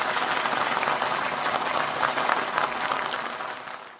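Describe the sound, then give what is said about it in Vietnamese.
An audience claps steadily for a few seconds, a dense, crackling wash of many hands that holds strong before easing off slightly at the end, with no voices over it. “Rất hợp lý, cần có tiếng vỗ tay ở đây.”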